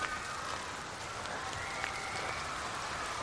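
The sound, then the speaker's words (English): A steady patter of rain pours down in a dense, continuous hiss, fairly loud, with no voices over it; a brief shower lasting about 10 seconds. “That was like a 10-second shower.”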